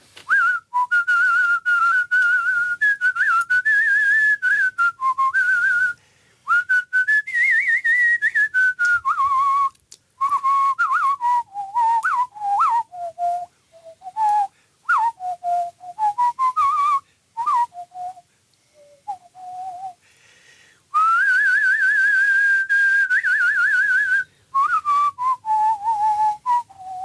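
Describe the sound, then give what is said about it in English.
A man whistles a lively tune solo for nearly half a minute, clear, with long sustained notes, quick ornamented runs and brief pauses between phrases; he is a three-time All-Ireland whistling champion. “… gives us his All-Ireland winning whistle”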